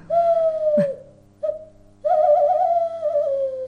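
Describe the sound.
In a studio, a naturalist's voice imitates a tawny owl (chouette hulotte): a long, steady hoot, a brief break with a short note, then a longer wavering, quavering hoot that slowly falls away, fairly loud and alone.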